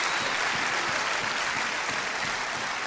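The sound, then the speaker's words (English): A church audience gives God a clap offering, clapping together in a sustained, dense burst of applause, steady and fairly loud throughout with no voices standing out. “I think we owe God a clap offering.”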